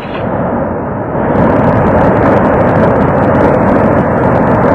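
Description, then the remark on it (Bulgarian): A loud, steady rush of water from taps turned on full to make a flood roars, growing fuller and harsher after the first second as the flow surges and then holds at a heavy, continuous gush with no voices. “А сега най-повече вода!”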